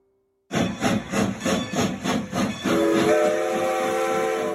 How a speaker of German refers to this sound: Der Zug muss aus dem Bahnhof. Dabei wird er auf den ersten Metern sicher nicht Höchstgeschwindigkeit erreichen. Aber der Zug muss ins Rollen kommen.